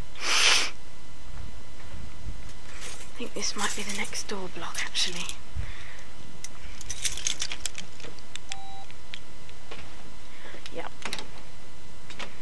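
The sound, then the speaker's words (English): Metallic jangling and scraping clicks of a key being tried in a door lock, with a brief hiss at the start, a couple of short electronic beeps, and a man speaking quietly in between. “Let's try my key.”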